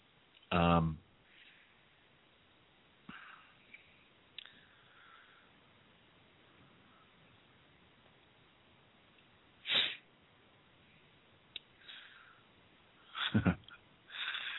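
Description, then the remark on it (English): Several sharp nasal sniffs, spaced irregularly with quiet pauses between them, the last two coming in a quick pair near the end. “I am sniffing, though, aren't I?”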